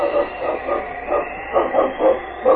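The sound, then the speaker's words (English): Sled dogs of a dog team bark and yelp in a quick, steady string of sharp calls during an Arctic blizzard at night, several animals overlapping, with a faint hiss underneath and no voices. “Yes, my team is used to a lead dog.”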